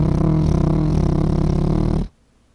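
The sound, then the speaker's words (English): A person imitates a helicopter with a loud, steady, buzzing vocal drone full of rapid low fluttering pulses, held for about two seconds before cutting off abruptly. “I'm making a helicopter noise.”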